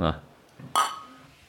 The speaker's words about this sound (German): Dann würde ich sagen, stoßen wir mal an. Wir haben dich noch gar nicht angestoßen.